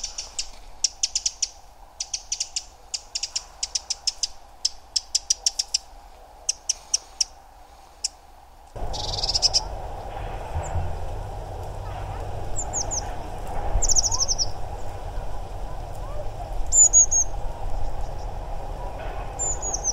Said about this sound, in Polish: Dzisiaj się coś udało, gdzieś między uderzeniami w młota jednego, a drugiego głos wąsatki, zatem posłuchajcie sobie głosów kontaktowych z jesieni, z ptasiego raju.